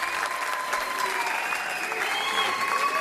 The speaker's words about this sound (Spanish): De mesa a la barba, Karim Benzema. Está emocionado, ¿eh? Y la gente le jalea.